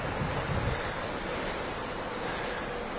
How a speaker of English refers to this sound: Warning, please take care in opening this door, as strong winds may be experienced on the open deck.